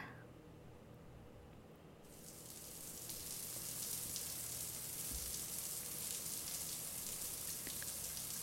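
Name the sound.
shower water running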